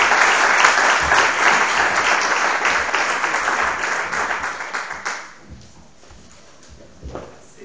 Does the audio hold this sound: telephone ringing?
no